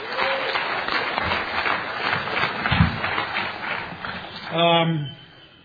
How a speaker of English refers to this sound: And say a great thank you to the committee for a wonderful job they've done. We can give them a little round of applause, the committee.